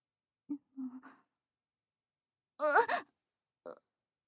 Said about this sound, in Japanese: お前、泣いているのか。